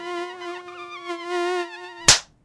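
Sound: mosquito buzzing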